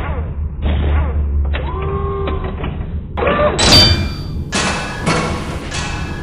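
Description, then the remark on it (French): Heavy blows pound on Captain Gloomy's door, a series of loud booming thuds mixed with creaking and splintering crashes as the door gives way. No one speaks. “La deuxième, j'aimerais que tu frappes à la porte.”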